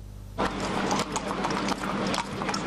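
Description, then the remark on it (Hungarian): Horse hooves clip-clop on the pavement of 56-osok tere in Budapest, as riders prepare for a carriage parade ahead of the Nemzeti Vágta: a dense, uneven clatter of sharp taps from what sounds like several horses, starting abruptly and continuing steadily with no one talking. “Délelőtt patkókopogástól volt hangos a fővárosi 56-osok tere.”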